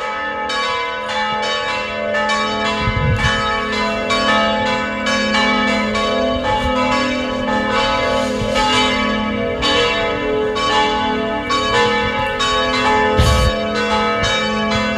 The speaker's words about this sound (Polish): W tej chwili słychać, jak biją dzwony. Nie wiem, czy to słychać. Słychać bardzo dobrze.